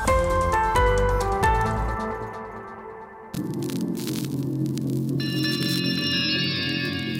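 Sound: dial-up modem connection tones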